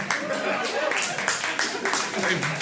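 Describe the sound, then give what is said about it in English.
An audience claps steadily, a dense, continuous patter of many hands that stays fairly loud and even for a few seconds, with faint voices mixed in underneath. “I think they're clapping for the change that's happening.”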